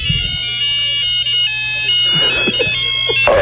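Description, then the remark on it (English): A caller's mobile phone ringtone plays a bright, electronic song melody, loud, running steadily throughout with a low background hum and some clattering noises toward the end. “Yeah, he's got the same song as me.”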